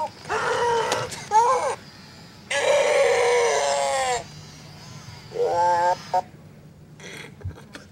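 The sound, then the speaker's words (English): A Pleo robot dinosaur toy, held by its tail and hit, lets out loud, wavering electronic cries and bleat-like screams in several bursts, with short pauses between them and faint clattering near the end. “Held it by its tail and hit it. And it was crying, and then it started screaming”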